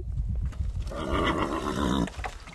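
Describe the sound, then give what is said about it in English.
A horse at a ranch fence whinnies loudly in the late morning sun, one sustained quavering neigh lasting about a second, with low rumbling outdoor noise before and after it. “Sipping quietly from troughs, the late morning sun warming their rumps, Leslie Newman's beasts linger at the fence and occasionally mug for attention”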